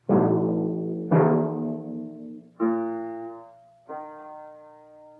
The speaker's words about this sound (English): we will start with exercise number one, based on a melodic perfect fourth at various tones to be named, the first on B-flat and E-flat.